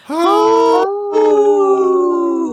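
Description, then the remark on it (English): Three people howl together like wolves, a loud, sustained wail that breaks briefly and then rises into a second long, steady howl. “It's a good trio, us three doing it. It sounds good. We're a good wolf pack.”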